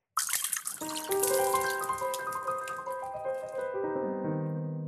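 Martinis are poured out in front of the bartender who made them, a steady, splashing stream for several seconds with a rising ringing gurgle as it flows. No one speaks.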